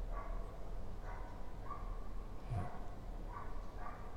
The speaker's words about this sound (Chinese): 試下出面，啲狗仔有啲亢奮啊！